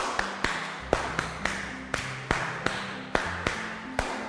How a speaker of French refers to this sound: Ok, applaudissons.